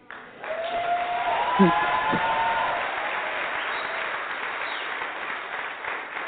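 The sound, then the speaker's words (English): A large audience claps steadily and continuously, a dense wash of applause that stays strong for several seconds, with a few whoops or whistles rising above it early on. “When the last time you stood in front of a group of people and they clapped for your dream?”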